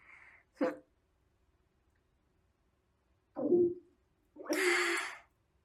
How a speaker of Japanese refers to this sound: ちょっと待って、おなら出そう。